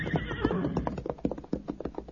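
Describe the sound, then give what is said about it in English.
A horse named Victor whinnies with a wavering, high neigh for under a second after pawing the ground, then a string of sharp, irregular hoof thuds and clops follows with no voices. “Victor pawed the ground, then raised his head and whinnied in understanding.”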